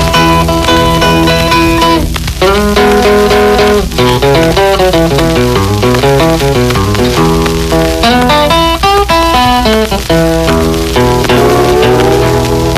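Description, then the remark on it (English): Steel guitar blues played from a 78 record, with sliding, bending notes and a steady plucked rhythm, played loud over a constant hiss and crackle of old record surface noise, with no singing. “Note the rather inexpertly played steel guitar.”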